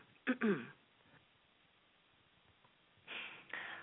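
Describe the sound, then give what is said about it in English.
A short, gravelly throat clearing, followed by a long pause and then a breathy, raspy rush of air. Fairly quiet overall, with no talking. “Pardon me while I clear my throat.”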